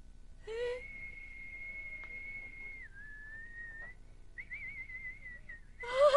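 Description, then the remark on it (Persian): Someone whistles in imitation of a nightingale: a long steady high note that dips slightly, a short pause, then a trilling, wavering phrase. Brief squeaky bursts mark the start and end. “چی صدای خوبی. خانم بلبل.”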